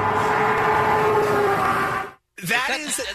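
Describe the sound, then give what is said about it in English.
A loud, steady roaring drone with a humming tone, like a plane flying low overhead, recorded by a woman standing in the backyard of a home, runs for about two seconds, cuts off abruptly, and then a person starts talking. “That sounds like a plane or something.”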